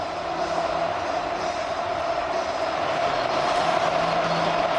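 crowd, stadium crowd ovation

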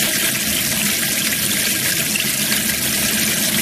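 household object, water running

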